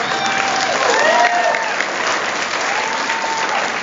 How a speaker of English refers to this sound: I mean, the people in Louisiana are very nice. I don't know if you've known that. You can give yourselves a round of applause.